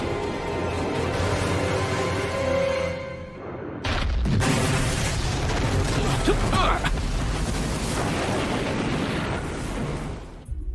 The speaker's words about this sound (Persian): تو دریا صدای انفجار میشنوم قربان. یکی دیگه، یه انفجار دیگه هم شنیدم. یکیشون نابود شد.